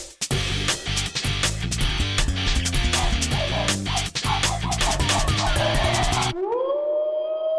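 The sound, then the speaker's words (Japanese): A short, busy jingle for the radio show Ametotsu no Radio Manga Inu, edited in, of punchy drums and bright layered music plays alone for about six seconds, then cuts to a single rising, siren-like swooping tone that holds until the end. “漫画犬、 はい、今はこれジングル入ります。”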